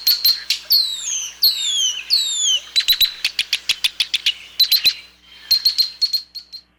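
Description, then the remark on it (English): A male marsh bird's flight song: a long, complex run of high, bright notes, with sweeping descending trills, rapid clicking bursts and repeated sharp chirps, loud and continuous with no talking. “And his flight song is actually much longer and more complex than his normal song.”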